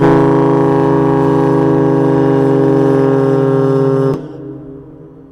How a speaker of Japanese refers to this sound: 毎日お昼12時と夕方5時の1日2回、 汽笛を聞くことができます。